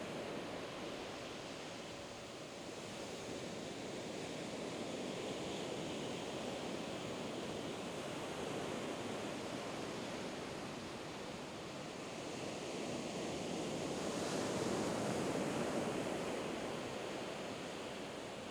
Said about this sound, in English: Now that all of the symbols are on the sand, and you notice that the waves are washing them away, they are never going to come back.